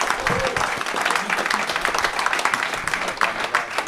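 Steady, dense applause from an audience, many hands clapping continuously at an even loudness for the whole stretch, with a few louder bursts near the end.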